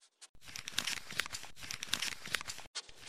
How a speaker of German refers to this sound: Plötzlich raschelte es im Gebüsch.